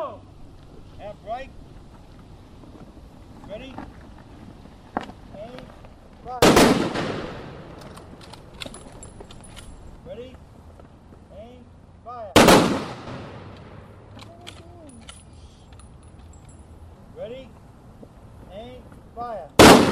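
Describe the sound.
Three sharp, booming ceremonial rifle volleys crack out about six seconds apart at a Veterans Day observance in Cambridge, Massachusetts, each a loud burst that rings off briefly, over a low murmur of crowd voices and faint outdoor noise.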